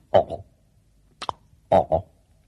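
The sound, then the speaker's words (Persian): An African grey parrot calls with two pairs of harsh, raspy double squawks, separated by a short thin whistle-like note. The calls are fairly loud, with no talking. “دیگه نزدیکی های صبح بود که خوابش برده بود، اما با صدای کاسکو همون پرنده قشنگ از خواب بیدار شد.”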